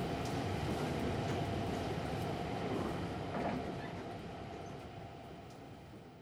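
Inside a moving train car, a loud, continuous rumble of wheels running over the rails fills the space, easing off slightly toward the end. No one speaks.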